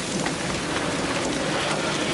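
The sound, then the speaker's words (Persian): Steady, dense rain falls throughout, a continuous, fairly loud hiss of drops pattering on a surface, with no voices or other sounds over it. “حالا حالا این بارون بند نمیاد.”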